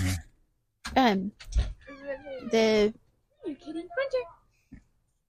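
A cat meows several times, a short cry followed by longer, drawn-out wails and a couple of quicker mews, with brief pauses between them.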